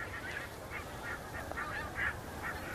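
A flock of geese in the sky chatters continuously with overlapping honking contact calls between pairs and families, a steady clamour of many birds at once against a broad outdoor background, in October.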